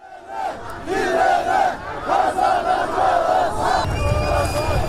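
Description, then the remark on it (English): Large crowds of supporters of Istanbul's jailed mayor Ekrem İmamoğlu march in Turkey ahead of his corruption trial, chanting loudly in rhythmic unison, many voices rising and falling together in repeated slogans, with a steady roar of the mass of people underneath. “Large crowds of supporters of Istanbul's jailed mayor marching ahead of a landmark corruption trial that they call politically motivated.”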